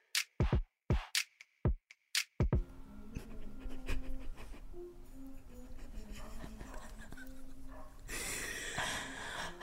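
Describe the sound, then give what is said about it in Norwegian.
A dog pants in a quick, rhythmic string of sharp breaths. Then the panting gives way to a steady, busy rumble of background noise, with a brighter hiss near the end. “Den jævla hunden.”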